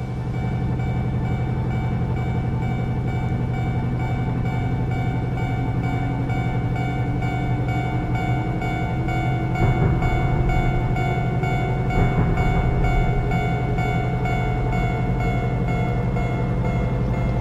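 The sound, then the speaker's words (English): A train runs steadily along the rails with a continuous low rumble and a humming motor whine that slowly rises in pitch, plus a couple of brief clanks midway. No voices. “Come on. Train operate.”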